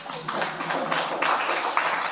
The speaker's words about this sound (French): On m'applaudit? Oui.